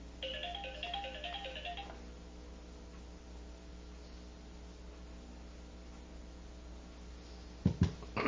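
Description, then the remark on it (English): A short electronic phone ringtone from an incoming call plays a quick rising melody for about two seconds. It stops abruptly and leaves a steady low hum, with a couple of sharp clicks near the end. “Had a phone call. I forgot to turn my ringer off.”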